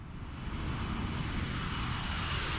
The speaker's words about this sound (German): Leider nein, kein Treffer, ein Flugzeug.